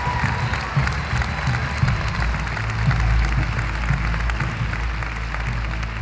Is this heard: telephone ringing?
no